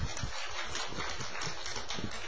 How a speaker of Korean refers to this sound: 우리 박수 한번 치겠습니다.